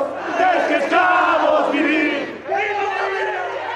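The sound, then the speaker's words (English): A large crowd of opposition protesters cheers and shouts loudly as Evo Morales steps down. Many voices merge into a sustained roar that briefly dips before swelling again, with a low steady hum underneath. “Later in the day, he stepped down, prompting cheers from opposition protesters.”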